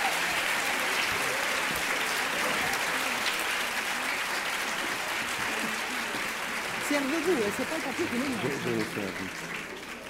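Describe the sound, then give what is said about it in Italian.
Sustained applause from a large audience at the Festival Letteratura welcoming author Daniel Pennac, a dense steady clatter of many hands, with a voice speaking faintly underneath toward the end. “Ovviamente questa folla da stadio e la passione che traspare dalle vostre facce, dal vostro applauso, dal vostro calore, fa subito capire che siamo di fronte a un autore che tutti quelli che sono qua hanno amato.”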